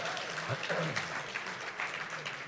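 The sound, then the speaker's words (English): An audience breaks into steady applause for the movie Mad Max: Fury Road, a dense wash of many hands clapping at moderate volume, with a few voices murmuring and calling out underneath. “You can totally clap for that movie if you guys want to.”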